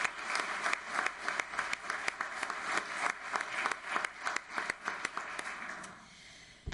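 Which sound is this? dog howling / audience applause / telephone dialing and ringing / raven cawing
audience applause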